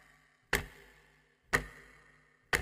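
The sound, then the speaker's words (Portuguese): A clock ticks three times at a steady one-per-second pace, each loud, sharp tick followed by a brief metallic ring that fades before the next. No voices are present. “Por favor, Farofinha, coloca um tic-tac aí pra galera registrar esse tempo”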